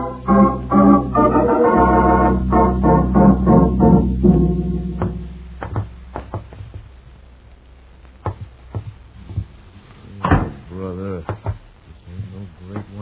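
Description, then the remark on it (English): A door is opened with a few sharp clicks and clunks of the latch and handle, following a sustained musical tone, with a brief voice at the end. “Move ahead of us and open the door.”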